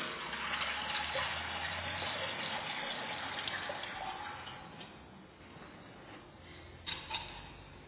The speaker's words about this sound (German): Und darum leere ich das Wasser, das wir gesammelt haben, in unseren Taufstein, der fast 500 Jahre alt ist.